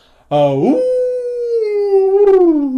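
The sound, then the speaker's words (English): A voice imitates a wolf howl: one long, loud cry that rises sharply, holds and slowly sinks, then swells upward again briefly before trailing off. “I tossed back my head and let out a loud wolf howl.”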